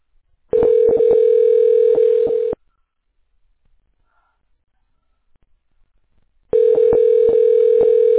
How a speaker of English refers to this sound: Is it ringing?